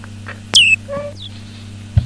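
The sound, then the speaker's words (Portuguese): A cat gives two brief meows in quick succession, the first thin and high-pitched, the second lower and softer, with a steady low hum underneath and a small thump at the end. “É o gato, é?”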